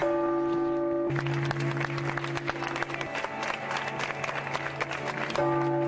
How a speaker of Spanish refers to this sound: Con el sonar de las campanas de la Catedral de La Habana y un cerrado aplauso, los cubanos se le dieron el último adiós al cardenal Jaime Ortega y Alamino, que falleció a los 82 años el pasado viernes 26.